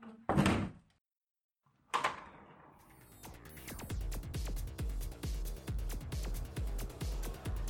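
The door of a club is pushed open with a sharp thunk and a second heavy clack, then loud thumping club music with a pounding beat floods in from the crowded venue beyond.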